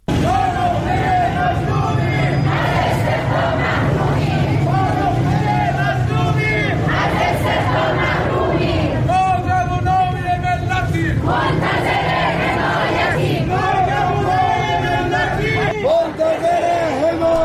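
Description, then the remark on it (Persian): A large crowd of protesting teachers in Iran, demonstrating on Saturday for a pay ranking plan and higher salaries, chants in unison, loud and rhythmic, with repeated shouted phrases rising every couple of seconds over a constant roar of many voices. “این رشته تظاهرات در کرج، تبریز، اصفهان، کرمانشاه، شیراز، خرم‌آباد، اهواز و ایلام برگزار شدند.”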